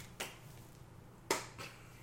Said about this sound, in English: Slow clap. Okay. I want to hear the slow clap.